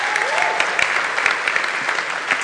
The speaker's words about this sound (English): And by the way, can we give another round of applause for the folks that led us in worship this morning?